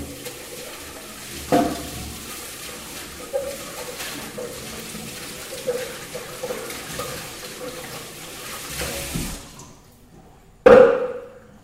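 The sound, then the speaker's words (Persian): Running tap water hisses steadily for about nine seconds while a dish is washed, with a few soft knocks along the way; the flow stops, then a sharp ringing clink of the dish ends it. “این ظرف رو بشورم.”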